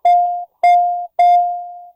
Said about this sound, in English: He distinctly heard his children ringing a bell.